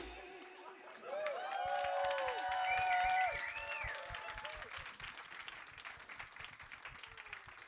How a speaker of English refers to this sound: Oh my God. Oh my God. Thanks very much, everyone. Thanks for all the clapping. I didn't even know I was nominated.